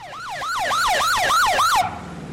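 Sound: police motorcycle siren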